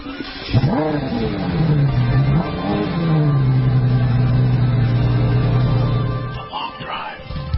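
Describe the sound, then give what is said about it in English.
The engine of a brand new Mercedes E63 AMG luxury car revs hard, then settles into a loud, steady, deep roar that holds for several seconds before easing off, with no one speaking. “Mercedes' brand new E63 AMG is a velvet hammer, a luxury car with the heart of a sports car.”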